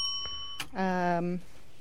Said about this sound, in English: Yep, that's one of the threes. Give her a bell on that.